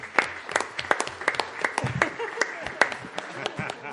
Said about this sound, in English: Yeah. There you go. He's clapping.